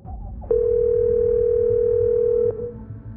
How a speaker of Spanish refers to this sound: Llamando a Fátima Sister móvil con el altavoz activado.